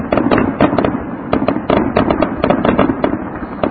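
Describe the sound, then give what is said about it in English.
Dense, continuous fireworks explosions crackle and pop in rapid, irregular bursts, loud and close enough to sound slightly overloaded, with no pauses between blasts. “Oh, a whole lot of fireworks, though.”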